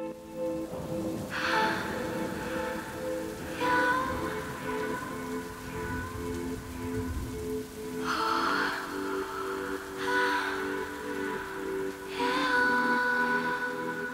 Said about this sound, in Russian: Дождь лил на мокрый асфальт и мокрые волосы.